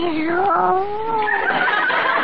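A female cat meows in a long, drawn-out wail that dips and then rises into a higher, strained cry, fairly loud, with no talking over it.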